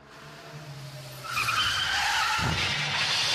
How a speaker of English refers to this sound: Yeah, a car accident. That's what that's turned into.